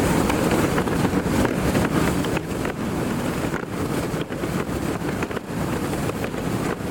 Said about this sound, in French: Ouais, c'est le vent dans les voiles. Voilà, tout simplement.